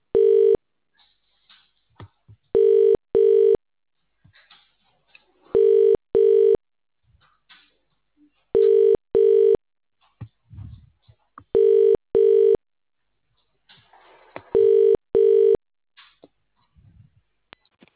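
A telephone rings steadily in a repeating double-burst pattern, two short rings then a pause, six times over, loud with only faint background noise between rings.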